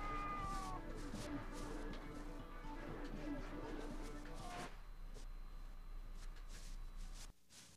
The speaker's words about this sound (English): So that's three cats live in the studio, huh?